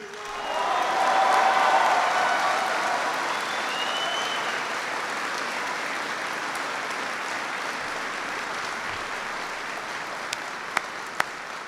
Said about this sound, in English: I want everyone to give a big round of applause to the amazing families who serve along with you.